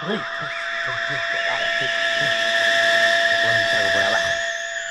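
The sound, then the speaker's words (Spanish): A rocket engine ignites after a countdown from seven to zero into a loud, steady hissing roar layered with high, wavering whistle tones, sustained for the whole stretch while voices speak underneath. “La ignición vaya con Dios.”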